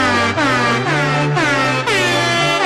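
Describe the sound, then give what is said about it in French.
A buzzy, kazoo-like novelty car horn blares a loud, sustained rendition of La Marseillaise, its notes sliding between pitches in a few phrases, with no talking. “C'est un klaxon gazou, ça? Oui! C'est la Marseillaise au gazou!”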